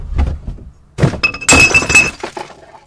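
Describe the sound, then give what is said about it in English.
Glass bottles crash and shatter into a big public recycling bin in a parking lot, a loud burst of breaking glass with ringing clinks and thuds, following a brief low rumble, with no voices. “County residents who want to recycle glass have had to haul it to those big recycling bins scattered in parking lots around the valley.”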